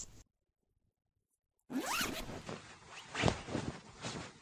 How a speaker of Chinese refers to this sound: 哎呀，你裤子拉链怎么松开了呀？